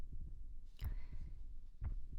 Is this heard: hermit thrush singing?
no